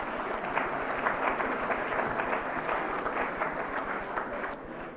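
A crowd claps steadily for several seconds, a dense, even patter of many hands at moderate loudness, tapering slightly at the very end with no voices over it.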